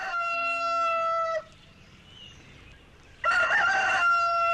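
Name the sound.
rooster crowing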